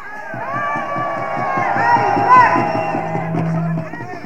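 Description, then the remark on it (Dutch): A lively crowd of demonstrators on boats at a harbour, with voices and cheering over the steady rumble of boat engines and a few sustained horn-like tones, continuous and fairly loud throughout. “We gaan nu verder naar de mensen die op de schepen demonstreren.”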